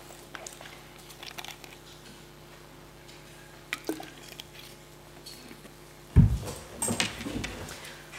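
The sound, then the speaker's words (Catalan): Water is poured or drunk: scattered small clicks and taps, then a sudden thump about two-thirds through, followed by a brief run of wet, gurgling liquid sounds. No one speaks. “Perdó, necessitaria aigua, però ja em porto.”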